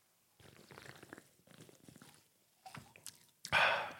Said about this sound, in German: Ich habe auch gehört, jemand, der uns zugehört hat, ich nenne jetzt keine Namen, hat gesagt, er kriegt immer richtig Bock, wenn er das Zischen der Dose hört und uns schlürfen hört, hat er richtig Bock auf eine kalte Dr. Pepper.